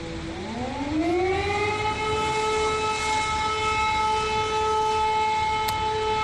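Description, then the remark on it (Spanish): An air raid warning siren alerting of possible attacks in cities such as Odessa, Mariupol and Kiev rises in pitch over the first second, then holds a steady, loud wail with rich harmonics, sounding alone against a faint background hiss. “En estos lugares la sirena que alerta de posibles ataques no para de sonar.”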